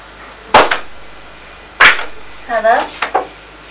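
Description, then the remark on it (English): Pig oinking: two sharp, loud snorting bursts a second apart, then a quick cluster of short grunting oinks with a rough, nasal tone, with no talking over it. “What makes that noise? That one. Who goes oink oink?”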